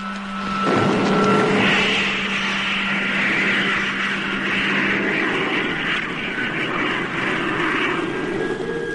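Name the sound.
rocket motors firing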